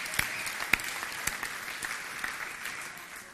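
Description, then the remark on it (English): A crowd applauds steadily for teenagers fighting for their faith, with a few sharp individual claps standing out early before the clapping settles into a dense, even patter that slowly eases off. “Can we give it up for the teenagers again who are really fighting for their faith?”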